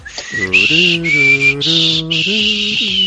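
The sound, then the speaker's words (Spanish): A person whistles the X-Files theme, a slow, eerie melody of long held notes, clear, with a lower sustained tone moving alongside beneath the whistle for about three seconds. “Ahí quedaba el silbido de Expedientes X.”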